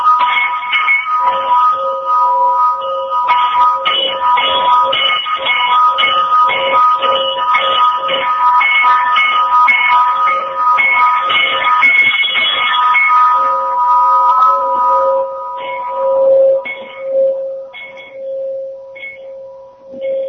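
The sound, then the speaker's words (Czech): A large church bell that came from Voronezh rings over and over on Veliki Pijesak with rich, metallic overtones. After about thirteen seconds the strokes thin out and a deep humming tone lingers on its own, with no voices. “da čujete kako je divan taj zvuk ovog zvona koje je stiglo iz Voronježa i kako je to divan zvon koji se čuje još poslije puno sekundi, možda čak i čitav minut nakon što se prekine zvonjenje.”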